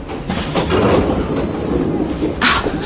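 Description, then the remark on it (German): A subway train rumbles loudly into a station, its wheels letting out a sustained high-pitched squeal over dense low rail noise, with a brief hissing burst near the end. “Heute kommt mir die Fahrt mit der U-Bahn irgendwie länger vor als sonst.”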